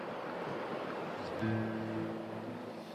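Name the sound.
sea waves breaking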